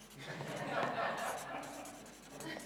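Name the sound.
pen writing on paper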